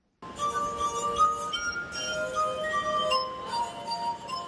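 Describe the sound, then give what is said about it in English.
Sustained, ringing glass harp tones as glass harpist Jamie Turner rubs the rims of water-filled glasses with his fingertips in Alexandria, Virginia, playing Beethoven's Ode to Joy; several pure pitches overlap into a shimmering melody, steady and fairly loud throughout with no talking. “He uses his fingertips to rub the rim of the glasses to create a range of musical tones.”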